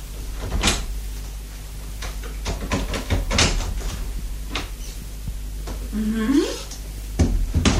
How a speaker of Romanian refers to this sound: Ia să crăp ușor ușa să văd dacă a șters-o.